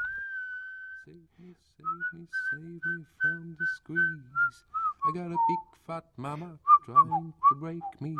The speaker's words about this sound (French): était entré dans l'appartement du Thermae Palace en sifflotant mécaniquement un air qu'il avait entendu en longeant la Königin Astrid Lane.